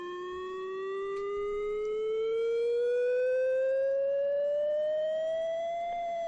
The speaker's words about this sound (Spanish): Escuchan, ¿no? Ese sonido, bueno, pues este es una alarma que mañana se va a escuchar en 6 localidades vascas. No se asusten, es un simulacro de emergencia química